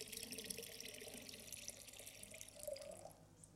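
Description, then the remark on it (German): Clear water pours steadily into a container of murky water, a continuous bright splashing rush with a faint rising gurgle near the end as it fills, with no talking. “Ich fülle das mal hier auf. Und es ist klar, wenn jetzt klares Wasser hier reinfließt, dann wird das trübe Wasser nicht mehr ganz so trüb sein mit der Zeit, ne?”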